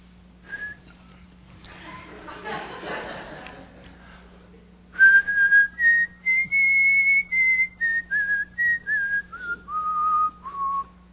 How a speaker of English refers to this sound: Makes you think of the president. All hail to the chief. The presidential anthem.